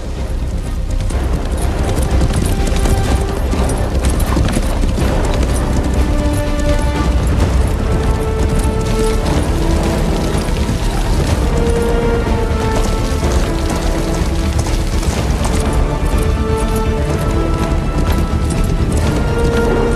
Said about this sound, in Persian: کیت که شنل پوشیده و صورتش را پنهان کرده در جنگل سوار بر اسب میتازد. باران شدید شده.